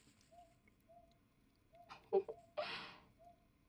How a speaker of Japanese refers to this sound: どこかで鳴いている鳥の声。